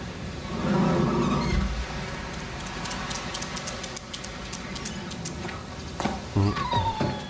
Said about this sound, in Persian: آخ ای هاپو کوچولو، خیس شدی؟ حتما خیلی هم گرسنه ای. سردته مگه نه؟ ها؟ اه، چرا انقدر عصبانی؟ منو باش میخواستم از غذای ظهرم بهت بدم. داری خیلی سر و صدا میکنی.